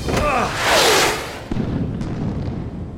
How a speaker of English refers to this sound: The missiles! They must have hit the mountains!